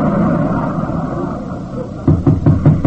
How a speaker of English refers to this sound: Who's at the door? Come in. What are you knocking on that door for?